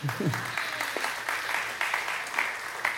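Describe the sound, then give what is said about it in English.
Steady audience applause, a dense, even patter of many hands clapping at moderate loudness throughout, with a brief vocal sound near the start. “You clap now, you might not later.”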